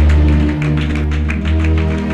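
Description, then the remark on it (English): An audience at a church service claps in a steady, rapid rhythm over sustained low keyboard or organ chords, the bursts of applause loud and continuous with no talking. “Shall we clap for our Papa?”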